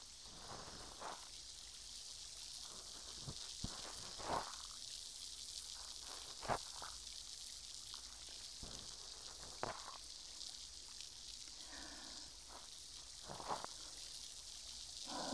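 Steady fizzing hiss of carbonation from a carbonated cotton swab inserted for cleaning, with scattered tiny crackles and pops throughout, fairly quiet and continuous, with no voices present.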